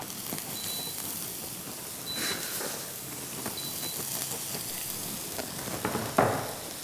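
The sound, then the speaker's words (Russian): Onion frying in vegetable oil in a pan: a steady sizzling hiss with scattered pops and crackles, plus a faint high whine repeating in the background and a louder crackle near the end. “Ну все, жарится наш лучок.”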